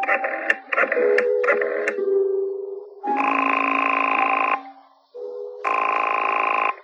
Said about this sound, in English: I had an uneasy feeling in the pit of my stomach as I went to a phone and dialed my number and waited for it to ring.